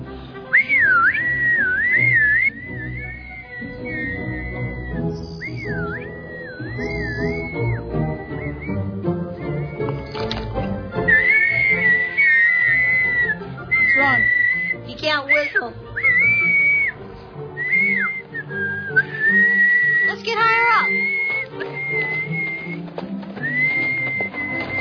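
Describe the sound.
Someone whistles loudly to call a dog named Quark, a long, wavering run of notes that keeps going with brief breaks, over a dense, busy background of lower sounds.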